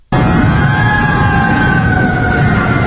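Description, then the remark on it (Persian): A fire engine siren wails loud, the engine responding to a fire at Farovon bazaar, the largest market in the centre of Qurghonteppa, kicking in abruptly and holding a steady, sustained tone over a rumbling engine for the whole stretch, with no one talking. “برای خاموش کردن آتش دکانهای درگرفته در بازار فراوان، بزرگترین بازار در مرکز شهر قرقانتپه، ماشینهای آتش نشانی از شهرهای قرقانتپه و سروند و نواحی وخش و رومی و باختر استفاده شدند.”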